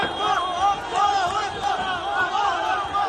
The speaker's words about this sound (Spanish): Así se escuchaba la caótica liberación. Lo han hecho en medio de una multitud que presenciaba entre gritos ese instante tan esperado durante tantos meses.